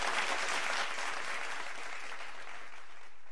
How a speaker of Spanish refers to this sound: Un aplauso fuertísimo para esta película, para toda la producción y para el cine venezolano.